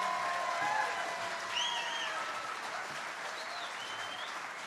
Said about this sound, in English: Another round of applause for … from Wenatchee, Washington.